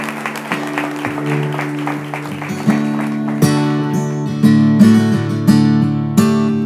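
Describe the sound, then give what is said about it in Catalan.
An audience applauds the people who make the festival possible and the pubilles, with a dense, steady crackle of clapping, soon joined and partly covered by sustained musical chords that strike in with strong, repeated accents. “Per tant, un fort aplaudiment per tota la gent que fa possible aquesta festa, per les pubilles.”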